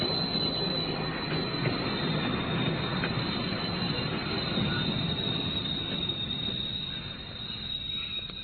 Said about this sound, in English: Quickly, a train's coming. Now for a demonstration. Up to the window. Now, see what happens.